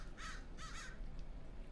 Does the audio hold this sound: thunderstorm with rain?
no